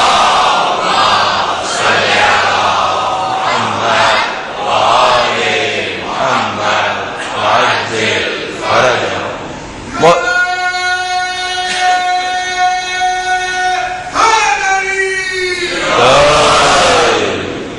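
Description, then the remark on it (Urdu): A large crowd loudly chants salawat (durood, 'Muhammad wa Aal-e-Muhammad') in unison, rhythmic phrases repeated for several seconds, then swelling into a long sustained collective tone before another rising shout of many voices. “مولا کی دی ہوئی اس نظر لطف کے شکرانے کے طور پر بابا زبلند درود بھیجے محمد و آل محمد.”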